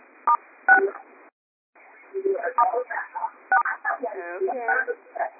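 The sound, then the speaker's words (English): Two quick telephone keypad tones, star then 6, pressed to mute a caller's line on a conference call, ring out over a thin phone line, followed by a brief silence and then muffled voices talking on the call. “So go ahead and mute yourself by hitting star 6.”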